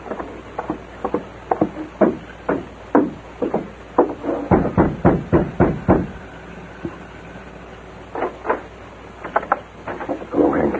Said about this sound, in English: Steady. Rap on the door.